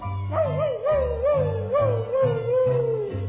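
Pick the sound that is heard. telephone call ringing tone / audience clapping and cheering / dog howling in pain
dog howling in pain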